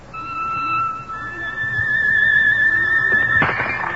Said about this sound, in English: There. The glass shatters across the room. Vibrations.